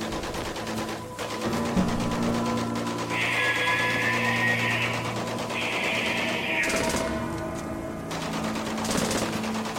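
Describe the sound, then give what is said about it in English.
Dense, rapid gunfire rattles on continuously, like sustained automatic bursts, with a pair of high, piercing shrieks rising over it midway. No one speaks. “The shrieks and the gunfire were louder now.”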